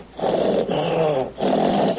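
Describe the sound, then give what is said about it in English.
Someone imitates an angry tiger with three long, rough growls, each a sustained raspy rumble with brief pauses between them, fairly loud. “A tiger when you get mad.”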